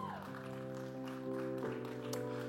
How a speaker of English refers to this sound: Give him a cheer.